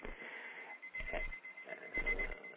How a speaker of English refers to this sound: My alarm is going off. I hear an alarm, yes. Okay. I have it right in my face. Right. Because I don't hear the regular volume okay. Of the alarm clock.